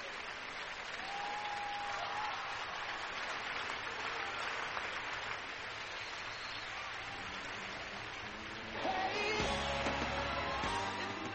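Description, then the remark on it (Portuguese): Steady, dense applause from a large crowd fills the whole stretch, loud and continuous, growing slightly fuller near the end as music-like tones join underneath. “É, já começa com palmas”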